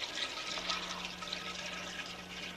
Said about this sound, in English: I rigged it up this way on purpose. I want it to flush all day and all night.